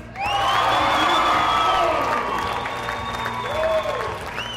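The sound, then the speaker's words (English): A crowd of about 150 people on its feet cheers and applauds loudly and steadily, with whoops and shouts rising above the dense clapping, as a man makes the final shot of a one-million-shot effort. “with the crowd of about 150 people on its feet, counting down the number of shots left, Dave Cummings reached his destination”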